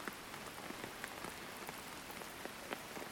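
Steady rain patters on a roof, a dense soft hiss dotted with sharp individual drop ticks throughout. Fairly quiet and even, with no voices.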